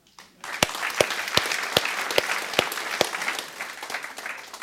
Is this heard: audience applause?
yes